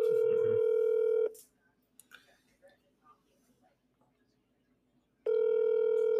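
The ringback tone of an outgoing phone call: a steady, buzzy electronic tone sounds for about a second, goes quiet for roughly four seconds of faint background noise, then starts again.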